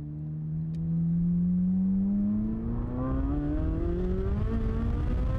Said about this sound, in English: The race cars are going to go do a run down the runway. Once they're on their way back and past you, let me know and I'll get you to the hold short.